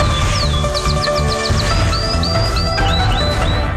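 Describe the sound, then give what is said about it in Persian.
A canary chirps in a quick run of short, bright notes, then shifts to longer rising whistles, set against a dense, steady background of low rumble and noise. “اینک مشروع خبرها با قناری.”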